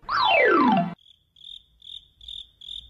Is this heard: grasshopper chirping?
yes